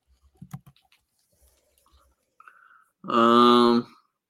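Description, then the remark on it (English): A few soft, irregular computer keyboard clicks tap away as someone types names into a web browser, then stop as a loud, sustained voice cuts in near the end. “I'm entering random Mavericks into a browser and see if they actually played on the Hawks.”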